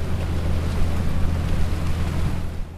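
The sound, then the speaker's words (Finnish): A boat sailing on the sea past breakwaters toward the Canal du Midi, its steady low engine rumble blending with broad rushing wash and wind noise, continuous for the whole stretch. “Sitten purjehdimme jo kauemmaksi ja pääsemme ihailemaan aallonmurtajia ja itse Canal du Midi-kanavaa.”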